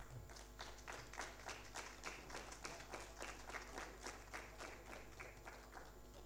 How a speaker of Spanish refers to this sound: Fuertes los aplausos.